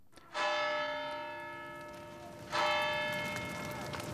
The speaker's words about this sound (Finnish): Viipuri syttyi tuleen juuri kun väkeä kutsuttiin kellojen soitolla Jumalan palvelukseen.